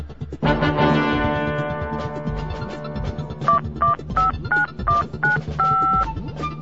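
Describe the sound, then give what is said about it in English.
A quick run of about eight touch-tone phone dialing beeps as someone places a phone call to Americans, each a short dual-pitched blip, sounding clearly over a loud, sustained droning chord that swells in just beforehand. “So something I said must have clicked, because the next thing I knew, he ran to the phone. A phone call to Americans.”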